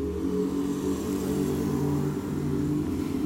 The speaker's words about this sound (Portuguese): E tá passando uma moto aqui.